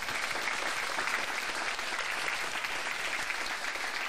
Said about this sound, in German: Und jetzt kommt ein großer, großer Dank mit immer vielen Applaus an erstmal unser gesamtes Panel noch einmal.